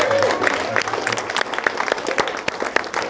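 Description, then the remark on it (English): A crowd gives a round of applause for Mom, many overlapping claps forming a dense, bright crackle that holds at an even, fairly loud level throughout, with a few sharper individual claps standing out. “One more round of applause for Mom.”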